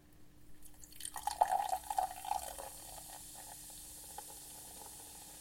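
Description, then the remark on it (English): Sparkling water is poured gradually from a bottle into lemonade made with lemon, sugar and ice cubes, a burbling pour lasting about a second and a half, followed by a soft, steady fizzing hiss as the bubbles settle. No one speaks. “And the reason why is because the lemon and the sugar, especially the sugar, actually makes it fizz up quite a lot.”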